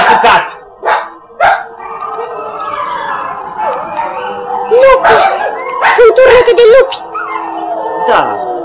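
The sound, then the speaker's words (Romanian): Long, wavering howls rise and fall in pitch, layered over one another, with a few sharp bursts of noise breaking in between. “Acum nu, dar mai înainte s-a auzit un fel de urlet.”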